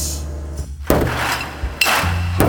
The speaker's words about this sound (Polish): Tam ktoś jest. Też gdzieś wykuli dziurę w ścianie i weszli do tunelu.